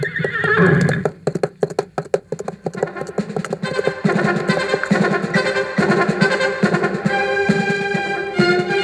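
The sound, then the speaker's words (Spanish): A horse gives a loud, shrill whinny right at the start, followed by a quick run of hoof clops, then swelling music fills the rest with no one speaking. “Hoy seguiré mis ejercicios de equitación. ¡Caballo!”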